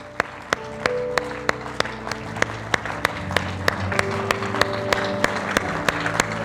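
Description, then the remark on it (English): A church audience claps in an ovation of praise to God in a steady, even rhythm, sharp crisp beats repeating about three times a second over sustained organ-like musical tones, with a continuous crowd wash underneath. “Would you clap your hands in an ovation of praise and thank God?”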